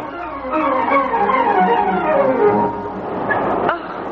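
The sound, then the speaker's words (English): A train pulling away and starting to sway, with a steady rumble, squealing tones that slide downward, and a sharp metallic clank near the end. No one speaks. “The train's starting to sway already.”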